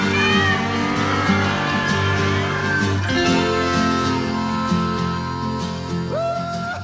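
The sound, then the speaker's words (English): Several cats meow in a computer company's commercial likening its work to herding cats, over a steady, droning background, with a long, wavering meow at the start and a sharp, rising one near the end, fairly clear. “Now you got some computer company that is liking what they do to herding cats.”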